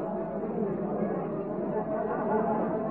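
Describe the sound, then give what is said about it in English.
A crowd in a pub in Cork, Ireland, singing together, many voices blending into a dense, steady wall of sound that holds at an even level throughout, with no single voice standing out. “Now here's a crowd from Cork singing.”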